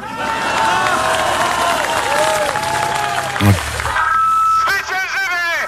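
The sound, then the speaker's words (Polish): A crowd at Rafał Trzaskowski's post-election rally in Poland roars with continuous shouting, cheering and applause, many voices overlapping in a loud, steady wash, with individual shouts such as 'zwyciężymy' ('we will win') rising above the noise. “Ktoś krzyczy, zwyciężymy.”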